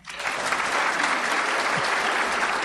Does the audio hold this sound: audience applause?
yes